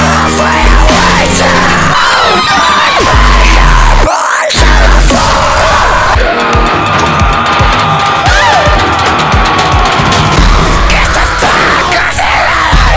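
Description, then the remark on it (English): Loud, dense yelling and shouting from a crowd, continuous over a thick musical backdrop, with a brief dropout partway through before the noisy cheering surges back. “They're like really screaming.”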